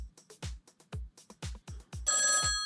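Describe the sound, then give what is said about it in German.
A telephone rings for an incoming call with an electronic ringtone: a run of punchy, rhythmic beeps over low thumps, then a brighter sustained tone, moderately loud, with no one talking. “Oh, ich sehe hier, wir haben hier den ersten Anruf.”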